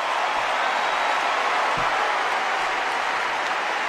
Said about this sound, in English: There are people applauding and excited in that room who don't even fully understand what he said, but they're catching this idea of, like, there's something here.